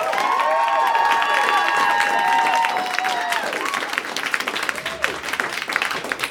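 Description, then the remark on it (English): An audience claps loudly and steadily for the round-one contestants, with high whoops and cheers riding over the applause early on, then the clapping thins into scattered, uneven claps toward the end. “Big round of applause for everybody for you from round one.”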